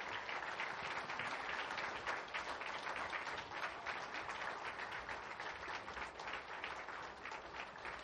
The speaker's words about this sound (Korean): 네, 우리 청년들 모습 참 예쁘죠. 다시 한번 21교구에게 큰 박수 부탁드립니다.